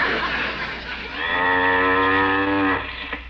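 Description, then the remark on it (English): A cow gives one long, loud moo lasting over a second, its steady droning tone rich with harmonics, over a faint background hum. “Where can that cow be?”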